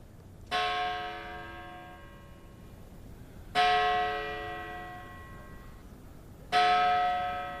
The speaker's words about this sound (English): That's the bell atop Greenwood's carved Gothic entrance. It tolls whenever a new body is received at the storied cemetery, which opened in 1838.